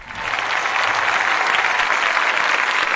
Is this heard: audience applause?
yes